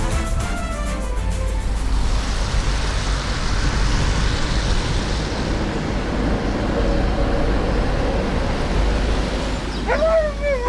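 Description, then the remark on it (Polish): A tram rumbles past over a trembling track structure that carries the noise, a loud, steady roar with heavy low rattling, with sharp metallic wheel squeals near the start and again at the very end. “Domagamy się przede wszystkim postawienia ekranów akustycznych, które wyciszą ten tramwajowy jazgot.”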